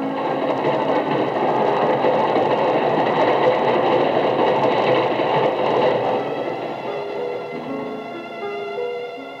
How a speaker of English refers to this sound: There's your train. Yes. I'll come over to the platform with you.